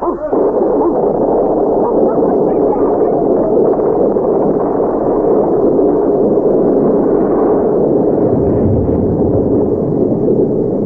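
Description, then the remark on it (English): A dog barks and whimpers over a loud, steady rush of wind or storm noise that fills the whole stretch, the animal's cries blending into the dense background. “What's wrong with that dog, Captain?”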